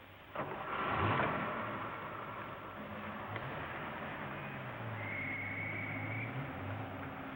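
A car drives along with a steady engine drone. Its low hum rises and falls as it shifts through gears, after a louder rush of engine noise near the start. No voices.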